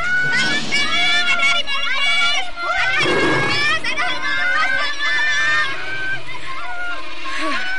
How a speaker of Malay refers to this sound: Sementara itu, baru saja Raden Purbaya keluar dari Balairu, tiba-tiba terdengar cerit ketakutan dari Dayang-Dayang.